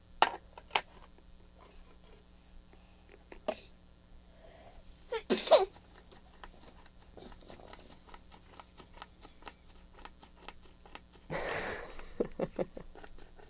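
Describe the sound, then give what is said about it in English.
A child chews on a toy piece of bread, making scattered soft clicks and taps with two short, crinkly bursts of noise, and no one talking. “Makes a good noise when you chew on it.”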